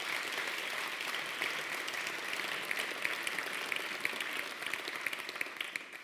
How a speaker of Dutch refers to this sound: En ergens moet het tijdens zo'n bijeenkomst als deze altijd een moment zijn om die mensen even te bedanken en een applaus te geven. Laten we daarmee beginnen. Applaus aan de mensen die dat gedaan hebben.